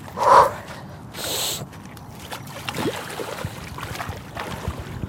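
A short sharp gasp, then a burst of splashing as a person wades into 4 °C cold water in frost, followed by steady sloshing and swishing that continues throughout, with no talking.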